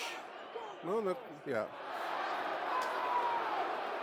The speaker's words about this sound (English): Crowd howling from Millwall throw, but they're not going to get it over on that right side, dear listeners.